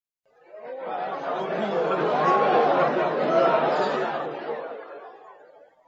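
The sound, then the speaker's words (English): A steady wash of many overlapping voices chattering at once, the indistinct hubbub of a busy restaurant at lunch, fading in and swelling before tapering off, with a hint of laughter mixed in. “We went to a restaurant for lunch. The restaurant was noisy.”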